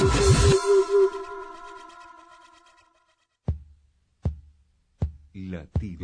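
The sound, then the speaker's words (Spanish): A fading synth chord rings out, then three deep, booming heartbeat thumps land at a steady pace, loud, as a voice begins to come in at the end; the opening of the program Latido americano on the radio station FM Moreno. “Latido americano.”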